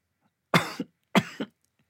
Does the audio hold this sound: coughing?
yes